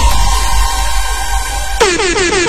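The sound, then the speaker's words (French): A loud, sustained air-horn-like alarm blares with a steady buzzing tone, then abruptly switches to a rapid series of repeating downward-sweeping wails. No voices are heard. “Mon alarme.”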